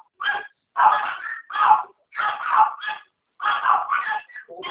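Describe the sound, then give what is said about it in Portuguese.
A woman's dog barks over and over in quick, yappy bursts separated by short pauses, loud, with no talking alongside. “Eita, o cachorro da senhora está latindo.”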